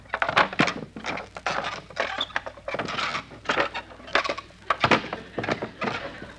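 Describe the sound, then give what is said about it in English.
A couple of wooden deck chairs are unfolded on board a ship with a busy run of clattering knocks, creaks and sharp clacks, fairly loud and irregular for several seconds, with no voices. “Mary, here are a couple of deck chairs. Let's unfold them and sit down.”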